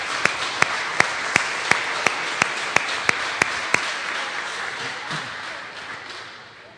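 An audience applauds to thank the teachers at a children's class event where diplomas are handed out, with a steady rhythmic clap ringing out about three times a second over the dense patter of many hands, then the applause thins and fades away.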